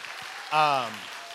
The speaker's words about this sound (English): Okay, you can stop clapping.